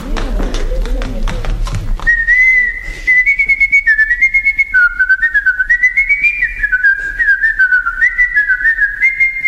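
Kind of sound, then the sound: human body sound, person whistling a tune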